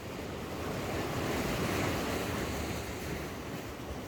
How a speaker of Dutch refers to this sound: Laat de zee en de golfslag je overmeesteren. En het fijnste daarvoor is, in mijn gevoel, dat je je voorstelt dat je erin ligt.